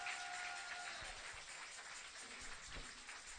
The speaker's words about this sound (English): That was a very powerful worship. Applaud them for me, please.